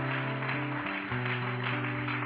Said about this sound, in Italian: Amen. Facciamo un forte applauso, Signore. Alleluia.